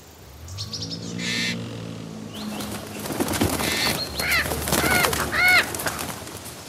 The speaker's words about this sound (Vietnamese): Một con vẹt xanh đỏ sặc sỡ bay vụt qua, làm cô vội thụp đầu xuống tránh, xong lại tự bật cười.